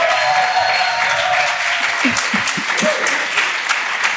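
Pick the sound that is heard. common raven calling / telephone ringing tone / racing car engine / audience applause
audience applause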